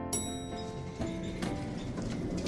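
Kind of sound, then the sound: sound effect, horse hooves clip-clopping away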